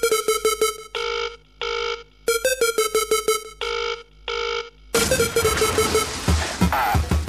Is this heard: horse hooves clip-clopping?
no